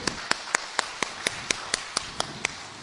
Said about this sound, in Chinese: 我哋俾掌声耶稣好吗？